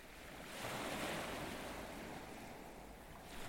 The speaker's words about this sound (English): And then, one night down by the docks in the spring of 1923, under a canopy of stars as the water slopped gently against the dockside and the moon made a million silver shards on the surface of the water,